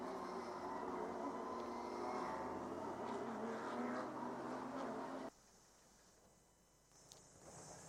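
A Toyota race car on Michelin tyres, getting into the pits, rumbles loudly and steadily for about five seconds, then the engine cuts off abruptly, leaving quieter background noise with a faint mechanical hum.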